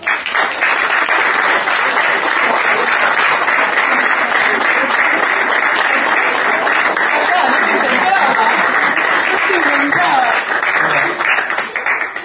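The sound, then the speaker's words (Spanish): Steady, dense applause from a sizable audience at a political candidate list presentation in Bolívar, greeting a local accountant being introduced. A continuous wash of clapping hands at constant loudness, with faint murmurs and a few chuckles mixed in. “el contador tan querido de Bolívar, al cual les pido un aplauso.”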